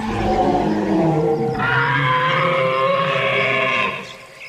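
A long, loud, growling roar with a deep rumbling base, rising into a harsher, higher bellow midway before trailing off, like an imagined dinosaur call. No one speaks.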